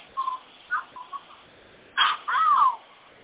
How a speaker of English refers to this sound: Okay, pigeons, this isn't the birds. Relax. Just relax.